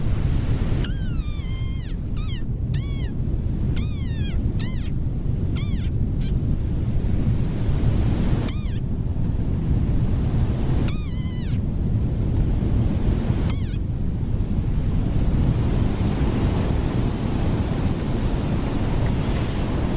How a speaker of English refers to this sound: Estimates in 2011 suggested that there are fewer than 10,000 individual desert rain frogs. And hear the sound of the desert rain frog.